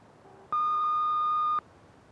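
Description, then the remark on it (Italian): A single loud, steady electronic answering-machine beep lasting about a second, a pure mid-pitched tone that starts and stops abruptly, heard alone against quiet background hiss. “Salve, lasciate se volete un messaggio dopo il beep.”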